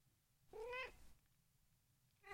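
A cat gives a clear, fairly loud meow lasting about half a second, followed by quiet, then the start of a second meow cut off at the end.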